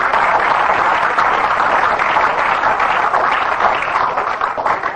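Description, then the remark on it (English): An audience gives the Lord a hand clap, clapping in sustained, dense applause, many overlapping claps forming a loud, steady wash of sound with no spoken words. “Can you give the Lord a hand clap for that?”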